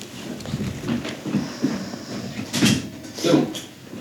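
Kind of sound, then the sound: household object, door being closed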